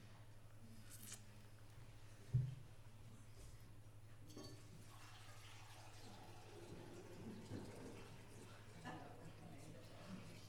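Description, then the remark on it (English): Water tinted with a little food colouring is poured from a jug into a vase, a soft, continuous trickling and splashing for several seconds, fairly quiet over a steady low hum, with faint voices murmuring in the room. “would you like to pour the jug of water in the vase, please?”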